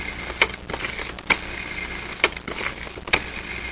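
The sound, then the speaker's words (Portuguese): A telephone being dialed in a living room: four sharp, evenly spaced clicks about a second apart, each with a brief bright ring to it, over a steady low hiss. No one speaks. “Ouviu o discar.”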